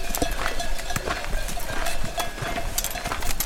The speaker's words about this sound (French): On est arrivé au refuge des motets et il y a des ânes, voilà. Il y a un cheval et un âne, ouais, là, qui sont en train de pâturer et on les avait pas encore vus, ils viennent d'arriver là.